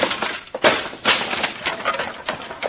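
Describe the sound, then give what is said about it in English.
A wooden trunk being ripped apart as its lining is torn out: a rough, continuous run of cracking, splintering and tearing noises with several louder bursts, heard on its own without any voices. “You've destroyed my trunk completely.”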